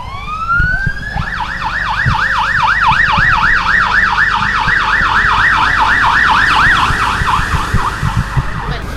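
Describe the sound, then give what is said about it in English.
Ambulance sirens wail in a rapid, oscillating yelp after a rising start, loud and continuous over rumbling street traffic, with no voices, as ambulances in Sderot, Israel, race to the scene of a Qassam rocket attack. “What you hear behind me are ambulances running to the scene of the latest Qassam rocket attack here in Sderot.”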